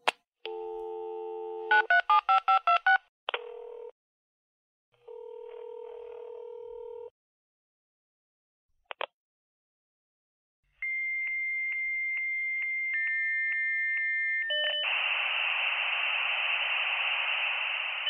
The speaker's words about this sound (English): And while we're on the subject of technical discussions, remember when I played that modem sound at the beginning of the show? You know, this one?